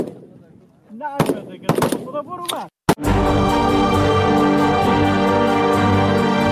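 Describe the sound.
Several sharp gunshots crack out at a shooting range over murmuring voices as Afghan women training for the country's security forces fire at targets, followed by one final loud report before steady music takes over.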